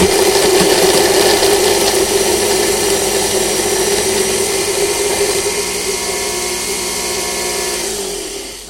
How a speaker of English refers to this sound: Now what I'm going to do is I'm going to pop the lid on that. I'm going to attach the blender attachment. I'm going to whiz this up now.